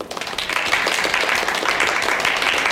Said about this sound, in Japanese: はい、拍手でお答えいただきましてありがとうございます。